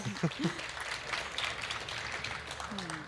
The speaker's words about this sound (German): Wir wollen aber die Chance nutzen, nochmal Danke zu sagen. Danke an das Bauteam, die den Orbit aufgebaut haben. Vielleicht mal einen kräftigen Applaus hier von allen für den Orbit.